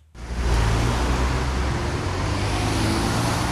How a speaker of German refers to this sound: Die Witzelstraße in Düsseldorf morgens gegen 7:30. Tausende Autos fahren an Werktagen hier von der A46 im Süden in Richtung Innenstadt.